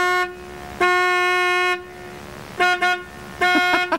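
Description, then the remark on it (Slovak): Car horns honk in loud, insistent bursts: one long blast, then several short repeated toots and another cluster of quick honks, with nobody speaking, from drivers stuck behind a car whose engine has stalled in an intersection. “Začnú trúbiť.”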